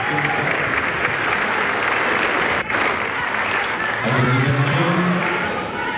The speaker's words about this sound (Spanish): Ahora sí, ¡viva Chile!, grita una persona en la grada, que es respondido por todo el Salón de Honor con un aplauso.